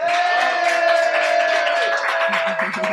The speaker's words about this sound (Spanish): ¡Bravo! ¡Un aplauso!